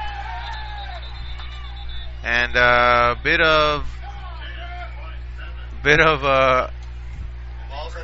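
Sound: crowd yelling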